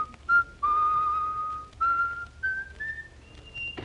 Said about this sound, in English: That man's always whistling.